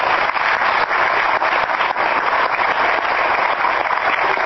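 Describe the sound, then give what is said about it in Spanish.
Steady audience applause for a field-work teaching assistant, a dense, even wash of clapping hands that stays loud throughout without building or fading, with no voices over it. “asistente docente de trabajos de campo, y otro aplauso.”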